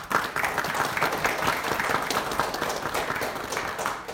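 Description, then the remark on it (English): A church audience applauds its lead team steadily and warmly, a dense wash of many hands clapping at once, sustained at even loudness throughout with no voices rising above it. “But let's applaud them.”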